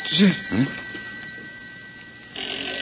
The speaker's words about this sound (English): Well, listen. Am I hearing things? It's the phone, J.L. Your phone. Right there on the desk. You mean this one? It's got to be. Yes, it's the only phone in the room. But we're just imagining it, huh? Pick it up and find out. It sounds like a phone.